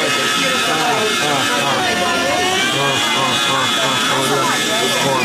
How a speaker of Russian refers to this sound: Даже мотор. Слушайте, он звук меняет.